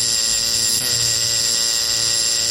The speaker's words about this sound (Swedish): Jag bar hem båten och stod just och beundrade den och tänkte på hur glad kapten Haddock skulle bli när det ringde på dörren.